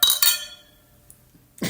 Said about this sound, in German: Wollen wir mal kurz anstoßen, bitte? Auch das. Prost.